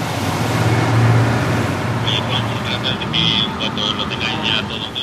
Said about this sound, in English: The boats have now slowed down on the water, and I can see the officers are getting onto the fishing dhow.